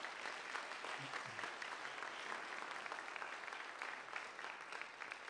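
An audience claps steadily for a speaker who came up on stage, a dense wash of many hands with no clear individual beats, sustained at an even level for several seconds with no one speaking over it.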